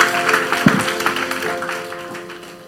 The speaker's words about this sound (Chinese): 好，给他们掌声，谢谢主，给他们掌声哈，谢谢耶稣。